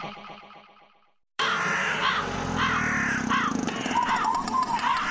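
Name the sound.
crows cawing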